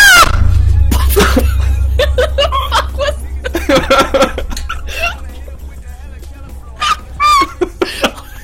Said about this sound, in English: That's him screaming after a light bulb exploded.